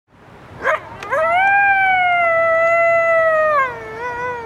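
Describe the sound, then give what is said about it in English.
A coyote lets out a short yip, then a long, steady howl that slides downward at the end, followed by a softer trailing howl. It is loud, with no talking. “Is that a wolf? A German shepherd? No, friends, it's a coyote, or a coyote where I'm from.”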